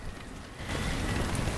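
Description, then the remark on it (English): Steady rain falls from a cloudy sky as a dense, hissing wash of sound, swelling noticeably louder partway through. No voices, just the continuous patter of rain. “It's cloudy and raining.”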